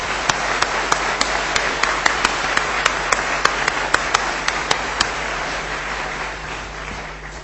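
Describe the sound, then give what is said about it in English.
An audience in a church applauds young people for the work they have put in, a dense, steady wash of many hands clapping with a few sharper individual claps standing out, holding strong for about five seconds before gradually thinning and fading. “I'm sorry if that's the case, but I think it would be worth just giving those young people a round of applause for the work that they've put in.”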